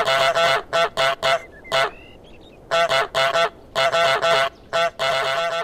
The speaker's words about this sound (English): The way the honk was implemented is a really satisfying input too. It's just a single button press, but you can also just mash it as much as you like, and the goose will just keep on honking, which is so much fun.